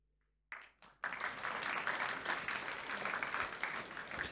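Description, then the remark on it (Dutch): A couple of scattered claps quickly swell into sustained audience applause after a sung performance, a dense, steady wash of many hands clapping that holds loud for several seconds with no voices over it. “En dankjewel voor het applaus”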